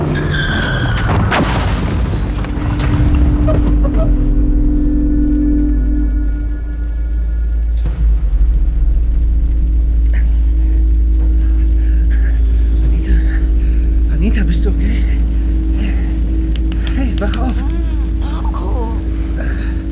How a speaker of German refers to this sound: Hey, kannst du nicht ein bisschen schneller fahren? Es ist glatt hier, es hat geregnet. Fahr, verdammt nochmal, fahr!